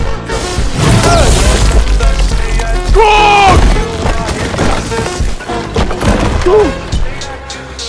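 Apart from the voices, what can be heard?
lightning strike sound effect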